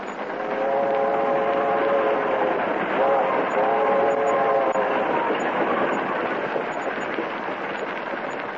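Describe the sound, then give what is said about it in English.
A steady, continuous, loud rumble of a moving train rolling along the tracks, with faint tonal whines rising and falling over the noise and no clear voices. “you can't leave this here train now. The next stop's the state capitol. But I've got to. Can't be dead, sir. Look, we're rolling.”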